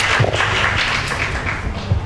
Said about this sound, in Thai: ก็ขอเสียงปรบมือให้กับท่านอาจารย์ศาสตราจารย์พิเศษดร.ชันวิทย์เกษตรศิริครับ